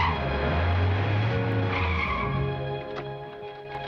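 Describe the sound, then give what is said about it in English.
A large estate car skids to a halt outside the Holiday Inn with a loud, sustained tire squeal over a rumbling engine, the screech fading as the vehicle settles. “A large estate car lurches to a halt outside the Holiday Inn as the staff set the tables out on the front lawn.”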